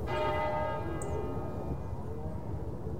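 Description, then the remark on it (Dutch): A church bell in a scene from the film The Long Day Closes rings out with a strong struck tone at the start, its rich overtones slowly fading and lingering over a low, steady rumble of background noise. “En dan hoor je een kerkklok luiden.”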